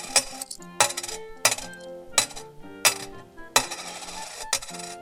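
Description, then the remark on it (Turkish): Eight gold coins drop one after another into a bird's beak, roughly eight bright clinks spaced under a second apart, each strike ringing with a high metallic shimmer as it settles. No voices. “Sonuçta kuşun gagasına 8 altın para bırakıyor.”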